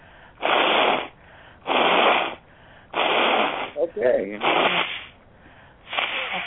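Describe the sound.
Someone blows their nose in about five loud, breathy, hissing bursts at a fairly steady rhythm, with a short spoken word slipped in between two of them.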